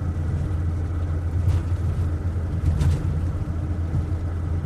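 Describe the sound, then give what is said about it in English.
Steady low engine drone and road rumble from inside a car driving an open road in Latvia toward Riga, just past the town of Rasna with 250 kilometres to go and virtually no traffic; constant and fairly loud, with a couple of brief whooshing swells. “So we're just after passing Rasna and we still have another 250 kilometres to go to get to Riga.”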